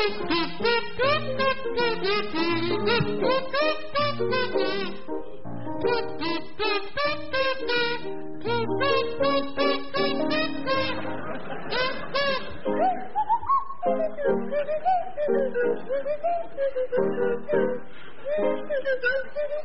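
Linda Smith on a buzzy kazoo and Tim Brooke-Taylor on a swooping swanee whistle play a jaunty tune together, loud, with the whistle gliding up and down in the second half.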